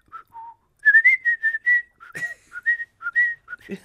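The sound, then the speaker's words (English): A person whistles a short melodic tune, the opening theme of a symphony used as a whistle to call their dogs on walks, a clear string of bright sustained notes rising and falling in a steady rhythm, with a brief breathy sound near the end. “That's the opening theme for the Mahler one.”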